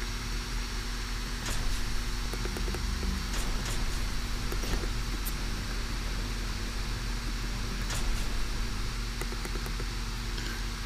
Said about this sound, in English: I apologize for the loud fan.